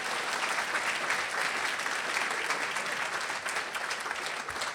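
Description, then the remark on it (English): Steady audience applause, a dense wash of many hands clapping at an even level for the whole stretch, with no voices standing out. “Applause. Applause to”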